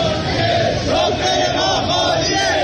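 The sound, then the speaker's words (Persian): A large crowd of workers at the Shiraz vegetable oil company chants slogans together in unison, protesting four months of unpaid wages beside an empty spread tablecloth: a loud, steady wall of voices with a rising and falling rhythmic cadence that continues without a break. “کارگران شرکت روغن نباتی شیراز هم در اعتراض به پرداخت نشدن 4 ماه دستمزد خود سفره خالی پهن کردند و شعار دادند.”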